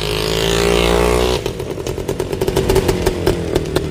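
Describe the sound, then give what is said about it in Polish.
A Polish-made WSK motorcycle engine in Świdnik, Poland, revs loudly and steadily, then drops into a rough, sputtering idle with uneven popping pulses. No voices are heard. “pozostawiamy Państwa tutaj z WS-kami w Świdniku i historią polskiej myśli motoryzacyjnej, jeśli chodzi o motocykle.”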